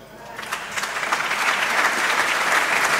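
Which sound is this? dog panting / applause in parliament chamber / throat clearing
applause in parliament chamber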